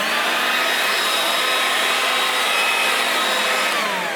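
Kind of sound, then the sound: machine, leaf blower running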